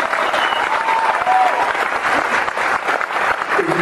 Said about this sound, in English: She deserves a round of applause for her.